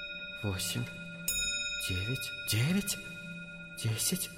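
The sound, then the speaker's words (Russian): A clock strikes the hour with ringing, sustained bell-like tones, one sharp strike standing out, while a voice sounds over it in several short bursts. “Бьет 8 часов.”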